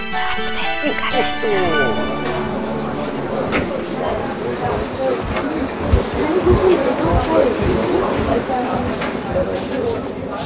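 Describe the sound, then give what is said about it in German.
A bustling Christmas market crowd of hundreds of people on a large square among mulled wine stands, bratwurst stalls and gingerbread huts: a dense, steady murmur of many overlapping voices with scattered clatter and footsteps, opening with a brief ringing musical tone. “So klingt es, wenn sich hunderte Menschen Jahr für Jahr auf großen Plätzen zwischen Glühweinstand, Bratwurstbude und Lebkuchenhäuschen tummeln.”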